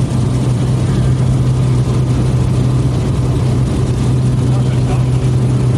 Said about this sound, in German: Und wir landen. Touchdown number one. Oh, er startet durch.